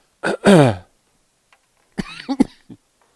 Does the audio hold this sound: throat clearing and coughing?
yes